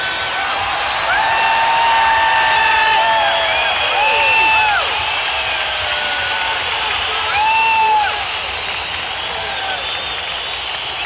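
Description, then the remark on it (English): A large crowd at a live performance, where a singer is trying to sing a song, shouts and screams nonstop for about eleven seconds, a loud, dense wall of voices with shrill whoops and yells repeatedly rising above the din. “Stop letting off fireworks and shouting and screaming.”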